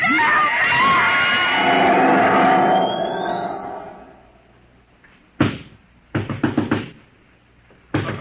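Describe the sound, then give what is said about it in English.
A loud, swirling mechanical whir with a rising whine fades away, then heavy pounding on a door by the manager, who is trying to break it down, follows: one hard blow, a quick burst of several thuds, and another bang. “He'll break down our door in a minute.”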